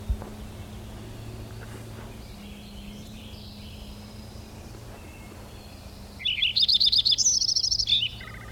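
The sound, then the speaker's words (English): A finch chirps in a quick, high-pitched burst of bright trilling notes lasting under two seconds, rising clearly over a steady low background hum after a long quiet stretch. “There's a finch or something in there too.”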